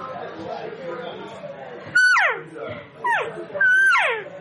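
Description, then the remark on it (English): Three loud, nasal cow calls blown on a call from another maker, each starting high and sliding down in pitch, the last held a bit longer. Quiet murmuring voices come before them. “Sometimes getting calls from different makers, like, okay, so listen, I'm going to give you one here, and just a cow call, listen to them.”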